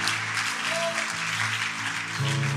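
An audience claps steadily throughout, a dense wash of applause from a large group, with sustained low instrumental tones humming underneath and no one speaking.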